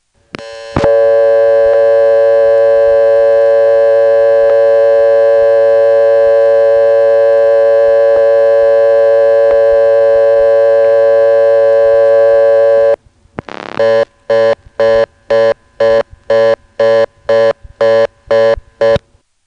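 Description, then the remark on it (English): A harsh, buzzy telephone tone from the Ladysmith exchange holds steady for several seconds, then breaks into the fast reorder signal: loud, rapid on-off bursts repeating about twice a second. “But here's what it really sounds like.”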